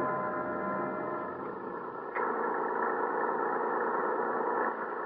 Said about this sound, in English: I can hear their lorries along the mountain road.